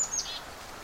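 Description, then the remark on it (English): A golden-crowned kinglet gives a faint, very high, thin call, a couple of quick squeaky notes right at the start, against quiet background hiss with no talking. “Although I'm hearing a little high sound. It looks to be a golden-crowned kinglet.”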